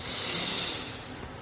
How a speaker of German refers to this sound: Wir nehmen zusammen mit der ganzen Gemeinschaft und mit mir einen tiefen Atemzug und atmen ein.